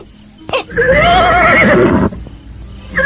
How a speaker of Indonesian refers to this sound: Kita tinggalkan kuda-kuda ini di sini, Kakang. Suara kuda kita justru akan membahayakan.